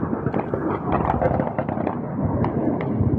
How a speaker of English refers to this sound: And now you can hear the clap of machine guns in the streets of Khartoum and airstrikes on the city from above as the two generals fight for control.